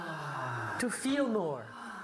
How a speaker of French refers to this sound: Et ça, c'est la respiration que nous allons pratiquer pendant les exercices. La respiration par la bouche, la respiration orgasmique.